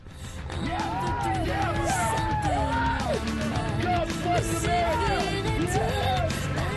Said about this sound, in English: And in this excerpt, you can hear soldiers cheering here over music that they added, and they call this video the Death Zone.